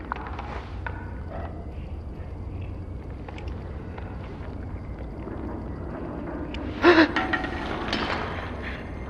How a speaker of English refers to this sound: I thought you were about to fire. So you gasped just in case.